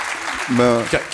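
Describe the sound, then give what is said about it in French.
An audience, about 95 percent of it, claps steadily in support of giving Snowden political asylum in France, a dense, crackling wash of applause, with a brief voice speaking over it midway and another voice starting at the end. “Il y a quand même 5% qui n'ont pas applaudi.”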